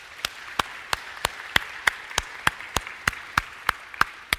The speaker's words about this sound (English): So that deserves also a hand clap this morning.